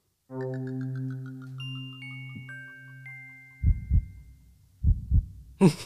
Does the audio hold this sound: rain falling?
no